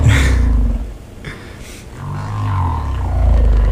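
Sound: whale songs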